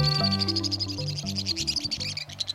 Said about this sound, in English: A torrent of shrill notes ricochets off the sheer stone walls of a western canyon. A pair of white-throated swifts careens by at high speed, revealing boldly patterned bodies.